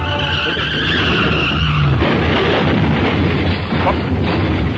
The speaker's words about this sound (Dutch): Wat gebeurt er nou weer? Ja, er rijden twee auto's op elkaar. Ja, dat hoor ik ook.